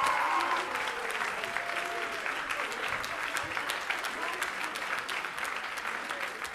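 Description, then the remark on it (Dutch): Steady applause from a large audience thanking the technical crew at the end of an evening event fills the whole stretch, a dense wash of many hands clapping at even loudness, with faint voices murmuring underneath. “Geef ze een applaus.”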